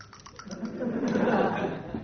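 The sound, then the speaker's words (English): Dice are thrown again in a board game after rolling a 6: a quick clatter of small clicks followed by a steady rolling rattle for about two seconds, with no voices. “I've got a 6 again, so I can throw.”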